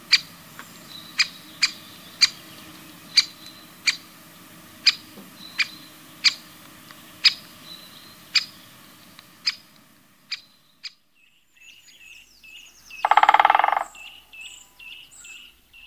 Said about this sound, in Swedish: Hackspettarna ropar och trummar. Större hackspett.